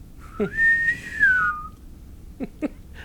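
A boatswain whistle call: a shrill, sustained pipe that rises, holds for about a second, then slides downward and fades, with a few soft knocks before and after.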